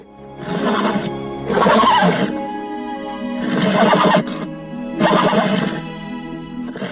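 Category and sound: animal, horse neighing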